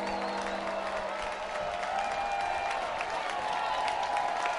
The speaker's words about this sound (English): Crowd at a fever pitch here in North Carolina.